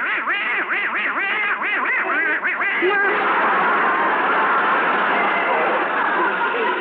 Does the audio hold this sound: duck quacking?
yes